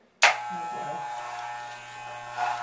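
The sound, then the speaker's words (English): Electric hair clippers switch on abruptly and hum steadily with a dense, buzzing drone, the pitch shifting slightly as the blades shave a head of hair that is falling out during chemotherapy. “Are we doing it? Shave it.”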